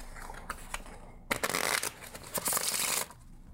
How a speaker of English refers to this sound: All right, place it back here. I'm going to cut it back into the deck. Shuffle the cards.